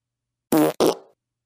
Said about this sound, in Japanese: スカンク娘のおならの怖さ、身をもって体験してくださいませ。たっぷりスカシもお見舞いして差し上げます。